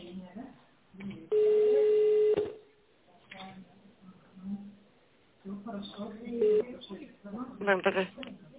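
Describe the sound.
Touch-tone dialing of an employee's extension number on a phone set to tone mode, calling a meat-processing plant in Barnaul: one loud, steady keypad beep lasting about a second, then a brief second tone later, with muffled voices talking around them.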